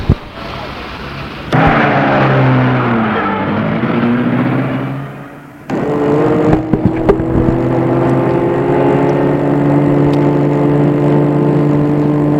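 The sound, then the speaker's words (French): An old green car's engine sputters to life and revs loudly, dips briefly, then settles into a steady, droning run as it pulls away with luggage on its roof rack, with a few sharp clanks along the way. “La voiture de l'oncle est une vieille à ronde verte. Après avoir mis les bagages sur le porte-bagages, ils partent.”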